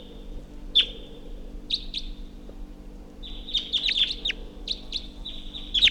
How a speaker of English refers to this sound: Wild bird up in the tree.